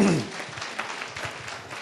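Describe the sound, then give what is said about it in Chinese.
An audience breaks into applause, a dense, steady crackle of many hands clapping at moderate loudness, with a brief trailing voice at the very start. “所以我愿意把这个荣耀归给我们的神，我们给他一个掌声好不好？”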